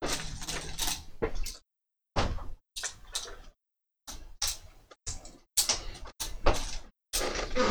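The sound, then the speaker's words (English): Metal fortune coins clink and jingle in a series of short bursts as they are counted out and handed over for luck in a game, with brief pauses between handfuls. “I have these fortune coins from when we play Pugmire”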